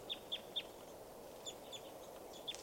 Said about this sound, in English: And the birds are just fluttering and flying. It's hard to tell who's who. There's got to be at least 30 birds around here.